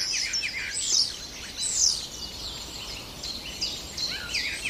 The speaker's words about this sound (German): Jedenfalls, wenn ihr nicht weit wegkommt, lauscht dem Star, der kann euch viele, viele Vogelstimmen beibringen.